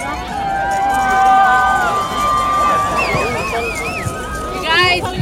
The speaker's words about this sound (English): Let's keep shouting and screaming and cheering so that the sun will come out.